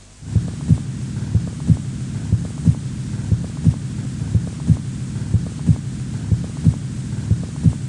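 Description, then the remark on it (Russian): Heart sounds heard through a stethoscope over the aorta: a steady, regular lub-dub rhythm of low, thudding beats, about nine cycles, against a soft background hum with no talking. “Сначала тоны сердца над аортой.”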